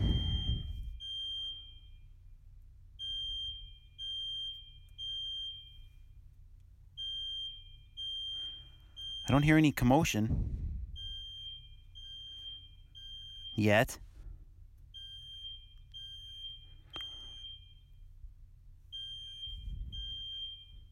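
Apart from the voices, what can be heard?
alarm going off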